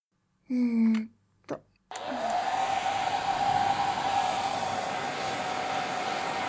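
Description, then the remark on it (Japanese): A hair dryer switches on with a click and blows warm air steadily to dry someone's hair, a continuous whooshing roar with a faint motor whine, preceded by a brief voiced sound and a short knock. “ドライヤーで乾かしていくわよ。”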